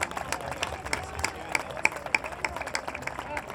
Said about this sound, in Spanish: Gracias a todos. Un aplauso para todos nosotros.